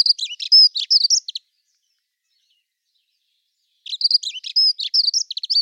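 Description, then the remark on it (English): A dunnock sings two bursts of fast, high, warbling song at an even pace, the rapid notes tumbling together, with a quiet gap of a few seconds between the phrases. “you've got a bird that is singing in this fast shuttling song, which doesn't change in pace”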